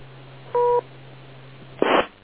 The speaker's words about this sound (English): wait for the beep